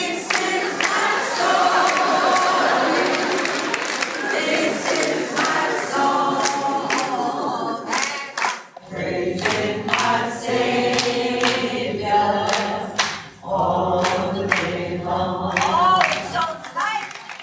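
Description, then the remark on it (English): A Broadway audience, led by actress Cicely Tyson during A Trip to Bountiful, sings a hymn together, voices blending loudly and steadily, with rhythmic hand clapping keeping time throughout; the singing briefly drops out near the middle before swelling back. “The late Cicely Tyson, joyously leading a Broadway audience in a hymn in A Trip to Bountiful.”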